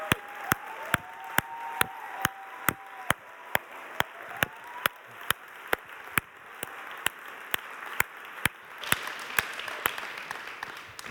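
An audience at a church gathering applauds in steady rhythmic unison to welcome three guests onto the stage, sharp claps landing at an even beat over a dense wash of crowd noise that swells louder toward the end. No one speaks.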